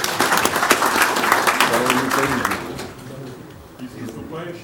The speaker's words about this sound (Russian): Поздравляю. Можно даже друг друга поздравить аплодисментами.